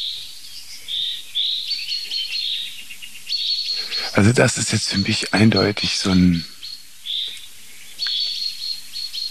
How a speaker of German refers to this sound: Jetzt kommt noch eine Meise dazu, die meckert. Ja, die anderen Vögel reagieren nämlich auf Buchfink, weil die wissen, dass der sehr verlässlich ist.